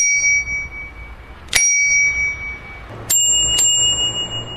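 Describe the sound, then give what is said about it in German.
A bright, high-pitched bicycle bell rings three times, each sharp ding leaving a clear sustained ring, the last two closer together, with no talking. “Der Gesetzgeber gibt vor, dass es eine helltönende Glocke sein muss.”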